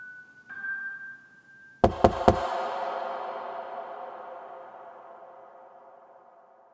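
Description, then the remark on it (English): Three loud, sharp knocks on a door land in quick succession after a faint steady hum, then a long echoing ring slowly fades away. No one speaks. “It was three loud mm-hmm. knocks.”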